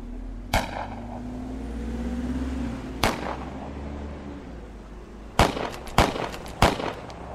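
Sharp gunshots crack out over a steady engine rumble during a car chase shootout with a pursuing official car: a single shot, another a few seconds later, then a quick burst of three in succession, loud.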